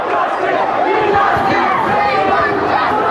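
A large crowd of angry citizens storming the Kensington borough town hall two days after the Grenfell Tower fire shouts and chants "We want justice" together in loud, continuous unison. Many voices overlap in a dense, agitated roar with rhythmic bursts of yelling.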